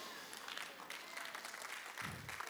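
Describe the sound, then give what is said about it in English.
An audience claps in a brief, modest round of applause, a steady wash of soft overlapping hand claps, with a faint voice murmuring near the end. “I should have had a bigger clap offering than that.”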